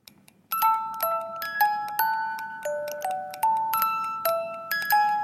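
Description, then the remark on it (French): A small music box plays a slow melody of bright, tinkling plucked notes, each ringing and fading before the next, after half a second of near silence. No voices. “C'est une toute petite boîte à musique et qui va faire ça.”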